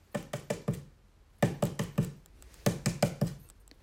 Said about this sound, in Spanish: Otra vez sobre su puerta, alguien rascó y rascó.